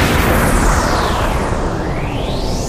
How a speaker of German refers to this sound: Und schließlich mit einem gewaltigen Knall.